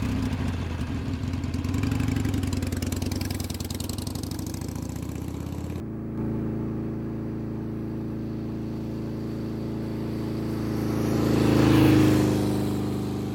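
A motorcycle engine drones steadily as it climbs uphill toward the Yes Hotel in the village of Dirang, the throttle holding then swelling louder and higher near the end before easing off, with no one speaking.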